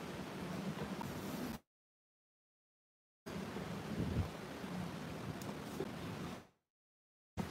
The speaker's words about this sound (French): Vas-y, il pleut un peu.